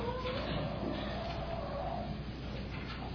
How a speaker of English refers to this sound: Sounds like a pigeon.